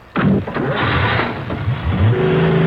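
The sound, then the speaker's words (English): A car engine bursts in loudly and revs hard as the car is driven away, its pitch climbing and dipping as it roars along steadily, continuous with no voices. “Drive that car away, even if you can't see.”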